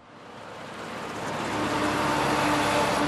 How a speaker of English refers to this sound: Big blue trucks filled with black boulders race each other out of a coal mine. This region is the largest coal basin in China, and these trucks are barreling down the highway to Beijing.